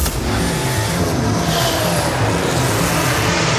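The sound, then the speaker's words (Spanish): A loud, sustained engine roar fills the whole clip, a racing engine droning steadily with rising harmonic whine and no pauses; no one speaks. “Vuelve el rugido a nuestras vidas.”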